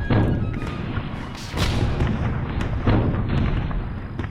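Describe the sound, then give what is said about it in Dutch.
Artillery bombardment of Maastricht by French revolutionary troops during the 1794 siege, with 140 guns set up around the city: heavy booms land a few seconds apart over a constant low, rumbling roar, each blast a broad burst of noise. No one speaks. “Na 45 dagen en hevige bombardementen geeft de stad zich over.”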